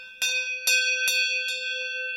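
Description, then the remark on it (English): A deep cowbell, individually cast from a sand mould, clangs four times in an uneven rhythm, each strike bright and metallic with a long, steady ringing tone that sustains between hits, fairly loud with no talking. “Each bell is individually cast from moulds made of sand, with intricate decorations of alpine landscapes, flowers, and of course cows.”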